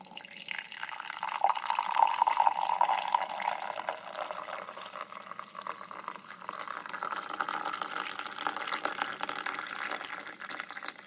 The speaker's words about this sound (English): So my wife grabbed a recently cleaned mug and lovingly began to pour the black gold into the cup.